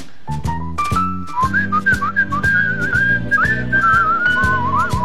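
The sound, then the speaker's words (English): A clear, melodic whistled tune glides and trills over a lively big-band backing with steady brass and rhythm hits, the whistling prominent throughout. “Who was the big band orchestra leader who used to whistle?”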